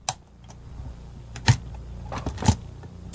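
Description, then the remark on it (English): Ring binder rings being clicked shut, a few sharp metallic snaps spaced about a second apart, with faint handling rustle between them. “I think it's clicking the rings down on the ring binder.”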